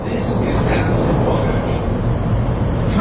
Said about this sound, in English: We're aboard a Chicago Transit Authority elevated train heading for Chicago's downtown center, known as the Loop.